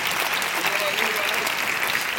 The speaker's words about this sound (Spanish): A todos, un millón de gracias. Un fuerte aplauso, por favor, para todos ellos. Están aquí.